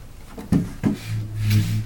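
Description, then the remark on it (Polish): Two sharp wooden knocks, then a low, grinding scrape as a heavy wooden table is dragged across the floor by two people toward a sofa in a small apartment, rising slightly before stopping. No one speaks. “Jeśli potrzebujemy posadzić kogoś jeszcze, to przesuwamy stół do kanapy.”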